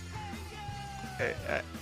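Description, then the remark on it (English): A bouncy, fun ska track with a held horn-like note, then two loud shouted vocal bursts of "Hey you!" in quick succession near the end, repeating the same short phrase over the band. “Like, it's this fun, wacky ska music that just doesn't really scream badass, does it, Sean?”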